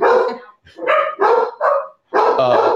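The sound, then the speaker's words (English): Dogs bark loudly at a daughter-in-law in a run of several sharp, harmonic barks with brief gaps between them, the last one longer and more sustained. “Well, I'm not sure I can be as loud as the mic in the microphone as the dogs. They're being impressively loud.”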